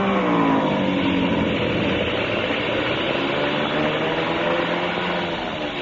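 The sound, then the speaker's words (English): A loud airplane engine that has been acting up drones continuously with a rough, uneven tone and slight shifts in pitch as the plane comes in fast to land, easing off a little toward the end. No voices. “Engine been acting up. I was afraid to trust it.”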